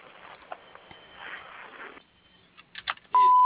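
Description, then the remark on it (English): A single loud, steady answering machine beep on the voicemail of Jordan's Mobile Home Repair and Supplies sounds near the end and holds, preceded by a few seconds of quiet line hiss and soft clicks. “If you leave your name and number, I'll get back to you as soon as possible. Wait for the beep.”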